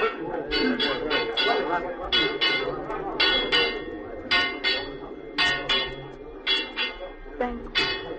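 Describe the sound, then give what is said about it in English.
An alarm bell clangs rapidly and insistently, with bright metallic strokes coming in quick pairs and bursts, fairly loud over a murmur of background commotion. “Ring the alarm bell, murder and treason!”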